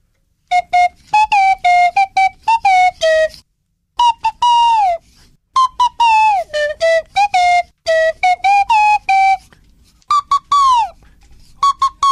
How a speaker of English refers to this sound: You've got to tell me what that song is from his Swanee Whistle interpretation.